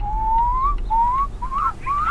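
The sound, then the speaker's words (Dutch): A snowcock, a chicken-like bird of high altitudes, gives its curlew-like call, echoing between rocks: four drawn-out, clear whistled notes, each sliding slowly upward in pitch, repeated in a steady series over a low, rumbling background. “En ze maken heel vet, een beetje een wulpachtig geluid.”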